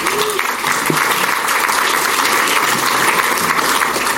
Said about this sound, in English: Yeah, that's worth a round of applause, right?